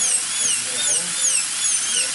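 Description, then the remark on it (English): A dentist's drill whirs steadily, its thin high-pitched whine wavering up and down throughout, with faint background murmuring beneath it, as it is used to fix an abscessed tooth infection. “That's a dentist drill.”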